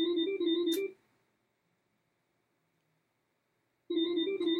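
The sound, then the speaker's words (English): A phone rings with an incoming call during a live radio broadcast, twice, each tonal electronic burst lasting about a second with roughly three seconds of silence between. Loud, with no voices. “And we are here and we're talking about many things news-wise, but the latest thing, alas, we have a caller. But dear caller, we cannot answer your phone call while we are on the air.”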